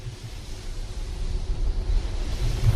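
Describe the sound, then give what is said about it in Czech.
A steady, low whooshing drone of wind turbine blades turning overhead at a wind power plant near Maletín in the Olomouc Region, Czech Republic, with a thunderstorm passing nearby; a deep rumble swells gently and grows slightly louder, heard alone without any talking. “Stojíme přímo pod větrnou elektrárnou Maletín, kousek od stejnojmenné obce v Olomouckém kraji, a ten zvuk nad námi, to je větrná turbína, která se točí, kousek od nás prochází i bouřka, takže řekněme ideální podmínky pro výrobu větrné energie.”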